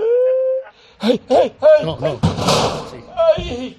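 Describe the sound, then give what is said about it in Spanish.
A heavy crashing thud of someone falling, a broad clattering burst lasting under a second, surrounded by short pained vocal cries and whimpers before and after. “Se ha caído el señor.”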